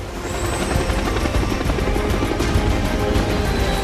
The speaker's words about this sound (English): Jack pushes Henderson on board a sleek blue helicopter, which swiftly dusts off.